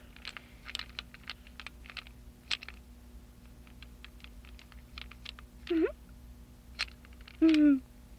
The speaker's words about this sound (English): No, that rabbit's too good to chew on. Why do you like to chew on that rabbit so much?